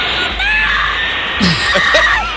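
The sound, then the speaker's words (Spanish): A man screams loudly and at length, a harsh, strained, high-pitched cry that wavers and breaks up into rougher, noisier shrieks partway through, with no one speaking; a scream that spread across the internet, with Timothée Chalamet right beside the screamer when it happened. “Este grito coge internet.”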